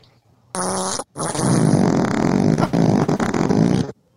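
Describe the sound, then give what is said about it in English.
A loud burp picked up by an unmuted microphone: a short voiced burst, a brief break, then a long, rough, rumbling belch that drags on for about three seconds before stopping abruptly. No one speaks. “I was burping. Sorry. I forgot to mute my mic.”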